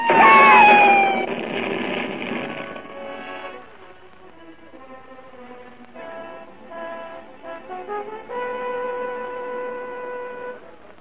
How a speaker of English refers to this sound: Cat!